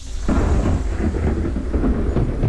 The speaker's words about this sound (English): The storms come almost every night. Big ones. Electrical light shows firing the sky like a million tinsel arrows. Thunder clapping directly over our heads and houses, appreciative of the release from waterlogged cloud cover.